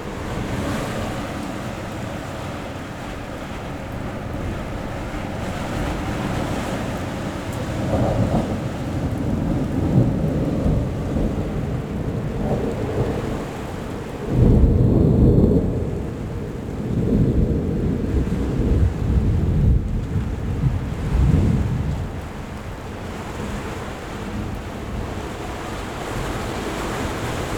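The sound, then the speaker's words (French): Deep thunder from a dry thunderstorm rumbles and rolls repeatedly over a steady roar of gusting, rather warm wind, with several louder booms swelling through the middle before fading back into the windy background. No rain or voices. “Orage sec, beaucoup de tonnerre, des rafales de vent plutôt chaud.”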